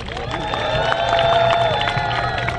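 Enthusiastic applause from a crowd, a dense, steady wash of many hands clapping at an even loudness, with sustained musical tones ringing over the clapping throughout.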